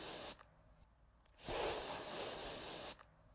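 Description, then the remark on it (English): A spray deodorant aerosol can hisses in short bursts, a brief spritz followed by a longer steady blast of about a second and a half, fairly loud with no voices. “Spray deodorant.”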